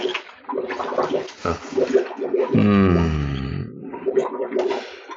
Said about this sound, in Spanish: En el fondo del baúl y del río, el agua empieza a entrar y su frescura reanima al adormecido Calimán.